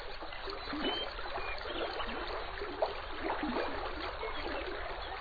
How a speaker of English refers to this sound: Through these grasslands flows the Frenchman River, twisting and looping again and again, sinuously, mile after mile, the epitome of a meandering river. The river's flow creates its own music.